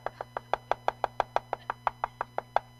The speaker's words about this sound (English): But you know me. I won't let things go. So I'm just knocking on the window.